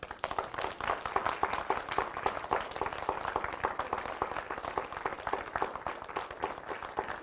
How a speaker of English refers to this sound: All right, I'm going to count down from three. Then when I get to zero, I want you guys to stand up and start clapping. Okay? 3, 2, 1, 0.